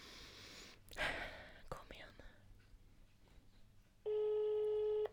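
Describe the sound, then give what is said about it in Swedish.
Soft whispery rustling and a few clicks, then a single loud, steady ringback tone of an outgoing prank phone call made from a hidden number sounds for about a second at a mid pitch. “Det är det här när man ringer med skyddat nummer.”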